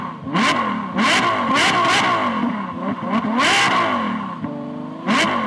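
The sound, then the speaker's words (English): Loud race car engines rev repeatedly in sharp surges, pitch climbing and falling with each burst of throttle, ending on a final high rev with no one speaking. “Start your engines.”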